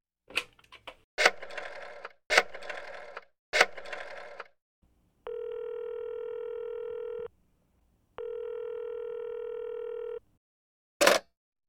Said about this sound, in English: She phones the police.